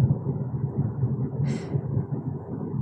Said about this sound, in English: I'm stuck at a traffic light right now. I am literally stuck in traffic with cars all over around me.